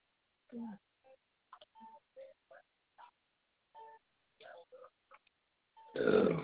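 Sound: belching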